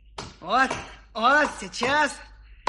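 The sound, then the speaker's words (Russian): Three chopping strokes of an axe biting into wood as a wooden wedge is hewn, each paired with a drawn-out, creaking, groaning tone that rises and falls. A last sharp knock lands at the very end. “Ну, вот только клин обтешу.”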